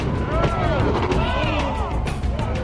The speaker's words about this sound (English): Whitewater powerboats are super light, aquadynamic, and have up to 1,200 horsepower engines to blast their way up the rapids. It's a fast-growing sport, but not for the faint-hearted.